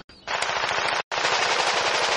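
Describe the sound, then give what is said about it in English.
Rapid automatic gunfire from a first-person shooter video game, two loud sustained bursts of fast, dense shots separated by a brief pause, with no voices. “Eating snacks and playing first-person shooters with your bros.”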